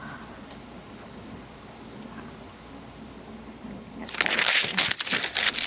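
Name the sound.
paper being crumpled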